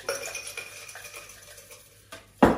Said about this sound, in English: We've got a nicely chilled glass there. And we're going to stir ours today. So in your stirring glass, just add some ice.